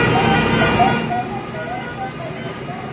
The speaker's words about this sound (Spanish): Los trabajadores de política social han recorrido la ciudad en caravana de coches para demandar mejoras laborales y salariales. Este era el sonido a su paso por Linares Rivas.